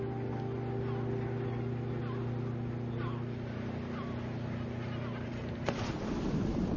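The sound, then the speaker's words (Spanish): A small motorboat, a launch from a mother ship, rides over ocean waves, its engine droning steadily over constant rushing water and wind noise, with a brief thump or splash near the end as the hull meets a wave. “Los de la pequeña lancha se dan cuenta de que las olas no son tan inofensivas como se veían desde el barco nodriza.”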